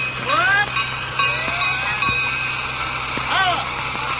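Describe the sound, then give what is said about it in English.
A shrill miniature train whistle swoops up and down twice, with a few sharp bell strikes ringing between the blasts over a steady mechanical hum. “He blows the whistle, rings the bell.”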